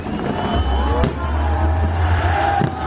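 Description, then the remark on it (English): A few sharp firework bangs crack over a steady low rumble and the dense murmur and cheering of a large outdoor crowd at the City Day firework display in Yaroslavl, Russia. “City Day ends with a firework display. The cheering crowd, a stark contrast to the horrors of war.”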